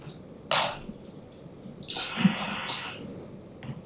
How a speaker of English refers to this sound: This is the sound of the brightest pulsar in the northern sky. Let's see if it plays. It's coming from my computer, but and this sound directly corresponds to the radio waves emitted from this pulsar.